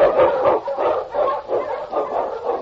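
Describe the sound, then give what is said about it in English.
A husky, the Eskimo lead dog King from the show Challenge of the Yukon, barks over and over in a quick, steady rhythm, about six or seven loud yelps with no voices around. “On King, on your huskies! The Wonder Dog King, swiftest and strongest of Eskimo lead dogs, blazes the trail through storm and snow for Sergeant Preston as he meets the Challenge of the Yukon.”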